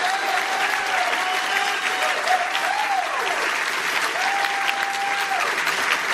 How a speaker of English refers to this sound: They are working very hard to make sure that everything goes off without a hitch. How about a round of applause for the staff here at the DoubleTree?